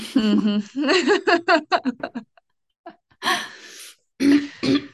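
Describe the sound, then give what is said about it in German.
A voice makes a string of short, rough vocal bursts in quick succession, then a pause, followed by a few harsher, breathy throat clearings, with no speech. “Sorry, ich muss mich kurz räuspern.”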